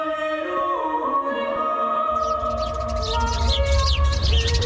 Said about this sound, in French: Ça se chamaille entre moineaux. Tout autour, tout est calme. Dans un Paris confiné, on n'entend plus les voitures et les chantiers.